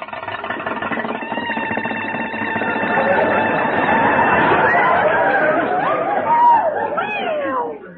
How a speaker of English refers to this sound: Well, that's the motor. It started again.